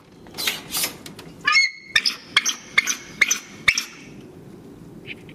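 A female bald eagle at the Raptor Center calls, a string of high, thin, squeaky chirps, about half a dozen sharp notes in quick succession, clear over a low background rumble.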